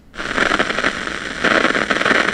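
Dense electrical crackling from an electrode recording of individual neurons firing inside a monkey's brain, rapid irregular pops and clicks over a hiss of static, steady and fairly loud throughout, swelling slightly toward the end. No voices.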